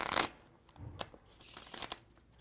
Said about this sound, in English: All right, I'm gonna cut it back into the deck. Shuffle the cards.